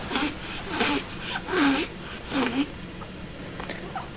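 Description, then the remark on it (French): A baby girl breathes noisily while drinking from a bottle: a few short, wheezy, slightly whimpering breaths come at uneven intervals over a soft, steady hiss. “Se souffle un peu en buvant. Pour ça, elle a cette respiration-là.”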